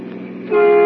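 A car horn blares in one long, steady, brassy tone that swells sharply louder about halfway through, riding over the rumble of a car rushing toward them at top speed on the left side of the road, on an extremely warm afternoon while driving back to the city; no one speaks.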